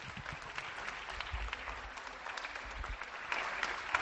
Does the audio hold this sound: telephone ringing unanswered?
no